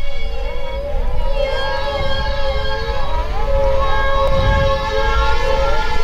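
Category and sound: vehicle, ambulance siren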